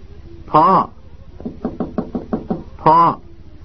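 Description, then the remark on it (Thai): A quick, even run of about seven knocks, voiced like a vocal imitation of rapping on a door, between two drawn-out calls from a voice before and after: a son knocking at his parents' door late at night, calling to his father to open it. “พ่อทำไมเงียบเชียบคล้ายกับไม่มีคนอยู่ข้างในอย่างนั้นนะต้องเรียกใหม่อีกทีสิพ่อเปิดประตูรับลูกด้วย”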